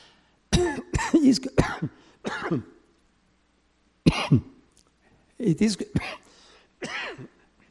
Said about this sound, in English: No, it's okay, because if I drink water, I will cough more. Thank you.